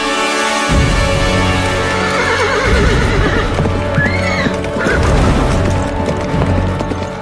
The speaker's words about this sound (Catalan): Després d'haver omplert la bossa de diners i cavalcant en el millor cavall de l'estable reial, el príncep se'n va anar terres enllà